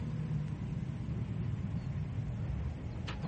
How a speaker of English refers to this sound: Stop here. Yes, Sarge. By the back garden. Park the car as near as you can.